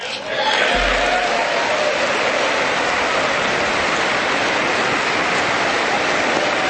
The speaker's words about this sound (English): And they all stand up again. And the Democrats, because they don't want to applaud President Trump, a lot of them are turning their backs on President Trump and applauding these women in white.